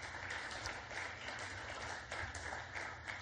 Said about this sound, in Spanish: Dele una ofrenda de palmas al Dios de la gloria.